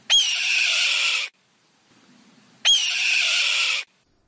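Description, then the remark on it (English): Two long, hoarse, descending screams from a red-tailed hawk, each lasting over a second, separated by a brief pause with faint background noise; loud, no talking. “Thanks for that insight and the hawk song and that we may see in pairs this month.”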